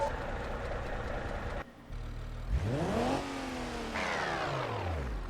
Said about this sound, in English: So you could hear there, I ground the gears out a little bit. That's just because I didn't know if it was automatic or manual.